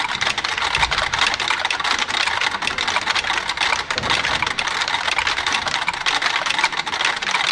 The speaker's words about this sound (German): Ein an sich langweiliges Geräusch, das Ticken eines Metronoms. Doch in der Überlagerung werden die jeweils verschieden eingestellten Maschinen lebendig. Aus der Masse scheint sich nach und nach ein eigener, komplexer Rhythmus herauszuschälen